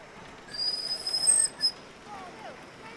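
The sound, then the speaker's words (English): A rail vehicle pulls into County School Railway Station, its wheels giving off a loud, high-pitched squeal for about a second, then one short squeal before settling into a low rumble. No one speaks. “It's bus day and I'm at County School Railway Station. Here it comes.”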